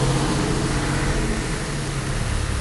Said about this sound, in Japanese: 雨の日ってのは結構ね、音がリッチでいろんな音が聞こえるのでつい聞いてしまいますね。県道沿いでもちろん車の音もうるさいんやけども、